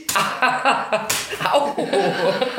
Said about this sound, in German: Ich sitze hier total konzentriert vor dem Mikrofon und auf einmal klatscht es. Hör auf, mich zu hauen. Mann. Wofür war das?